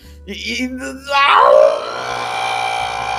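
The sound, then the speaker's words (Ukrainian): A person shouts loudly: a short strained vocal build-up bursts into a loud, rising yell that holds on for about two seconds, with no other talk around it. “Все, не кричи, не кричи. Не кричи.”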